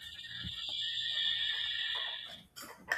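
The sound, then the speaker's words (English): A horse whinnies loudly: a long, high, shrill cry that holds steady, then breaks into a few shaky, fluttering bursts at the end. No one speaks. “Horses. Coyotes.”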